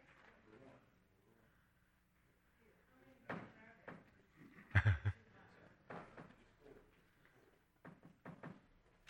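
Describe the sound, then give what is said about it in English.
A glass lift door opens after the button for the first level is pushed, with a series of sharp mechanical clunks and knocks, fairly loud, while muffled voices murmur faintly in the background. “So you push number one, which you're going to first level, and you'll see, for those of you that can see, the door will open in there, that glass door.”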